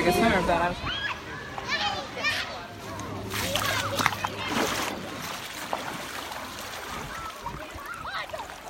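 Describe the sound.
Outdoor water splashing and sloshing in a few bursts as people stand in the water for a woman's baptism, with people talking and children's voices over the top.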